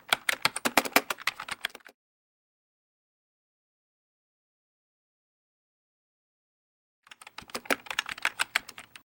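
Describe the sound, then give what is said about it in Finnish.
Rapid, crisp computer keyboard typing in two bursts with a long silent gap between them: a quick flurry of key clicks, a pause, then another fast run of tapping, as details from a registration form are typed in. “Mutta annapa se ilmoittautumiskaavake, niin naputtelen tietosi tänne talteen.”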